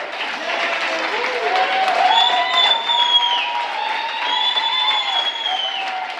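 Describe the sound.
Sustained applause from dozens of employees and volunteers in the open lobby of the Mid-Ohio Food Bank south of Columbus, clapping out Ohio National Guard soldiers at a decommissioning ceremony; steady clapping for about six seconds with scattered cheers and voices, at an even loudness.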